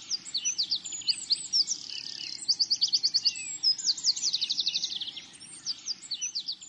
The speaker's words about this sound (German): Die Sonne steht über den Bergen und scheint das enge, aber freundliche Tal hinein. Das Leben erwacht, die Vögel singen ihr Morgenlied.